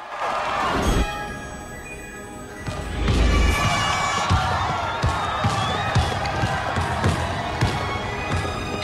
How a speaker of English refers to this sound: Distracted, Mike bounces the ball and looks to the crowd.